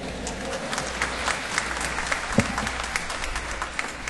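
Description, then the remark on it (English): A crowd of people applauding steadily for their rector, a dense patter of many hands clapping at an even loudness, with no talking over it. “I'm assuming, since I've only been here now today, that applause was for your rector.”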